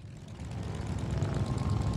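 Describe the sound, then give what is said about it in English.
Several motorcycle engines rumble together in a deep, continuous roar that swells slightly louder, with throaty low growling and no one speaking, after the Motorcycle Museum's Hall of Fame induction ceremony during the Sturgis Rally in South Dakota. “The sound of motorcycle engines filled the air following the Motorcycle Museum's Hall of Fame induction ceremony during the Sturgis Rally.”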